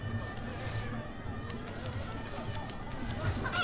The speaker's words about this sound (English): I hear a chicken. There he is.